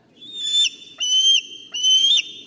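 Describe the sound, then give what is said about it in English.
A bald eagle gives three thin, high-pitched whistling calls in quick succession, each a piping, slightly chattering burst, clear with a faint low background hiss. “Benjamin Franklin didn't want this bird to be our national bird because these birds steal prey from other animals by chasing them down, just like they chased down the Patriots to win Super Bowl number 52.”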